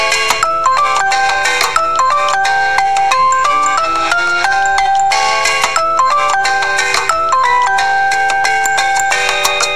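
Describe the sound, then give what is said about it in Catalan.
A bright, melodic mobile phone ringtone, the phone of the day's guest on the Catalan show Solfejant per la vida ringing as the show calls her, plays loud, its tinkling synth notes repeating in a quick looping pattern for the whole stretch, with no voices. “Hola, això és el Solfejant per la vida i així sona el telèfon de la convidada d'avui quan la truquem.”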